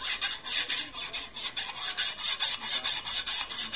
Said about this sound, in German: Ich hol schon mal die Eisensäge.